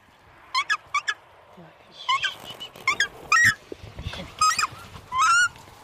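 Two young takahe, being caught by a ranger at Burwood Bush and put carefully into travel boxes, give repeated loud, harsh squawking calls in short bursts, over low rustling and scuffling handling noises.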